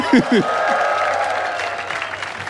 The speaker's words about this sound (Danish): Kan vi få et bifald for Grease?